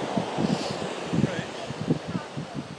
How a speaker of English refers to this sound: It is a seaside audio boat in Eyemouth, Scotland. A bit of a breeze as you might be able to detect, but otherwise, a perfect day.